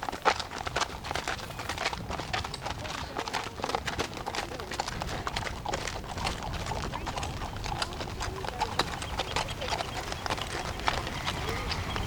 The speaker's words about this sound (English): No, it doesn't look to me like a horse to be ridden. It's a horse to be working and taking things places, right? I like so the sense of strength of this beast.